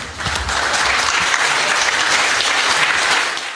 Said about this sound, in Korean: 역사적인 안락사 허용법이 화요일 밤 서부 호주 의회를 통과하자 이 법안을 지지하는 이들이 환호하고 울먹이는 모습이 의회 안팎에서 연출됐습니다.